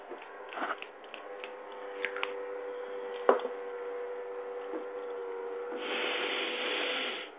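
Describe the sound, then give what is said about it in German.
A drill whines steadily in the background, a low, even mechanical hum with a few faint knocks and clicks, turning rougher and somewhat louder toward the end. No one speaks. “Also lasst euch nicht stören von diesem Hintergrundgeräusch des Bohrens.”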